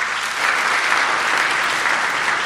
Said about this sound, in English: Yeah, we can clap for him, too. That works.